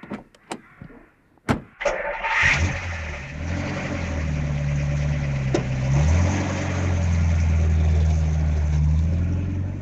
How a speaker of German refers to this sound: der Reporter setzt sich in sein Auto und haut so schnell wie möglich ab.